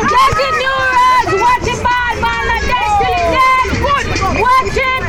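New Road supporters at a primary school volleyball match cheer loudly to keep their team's spirits up at halftime, many raised voices shouting and calling over one another in a dense, steady roar that keeps going without a break.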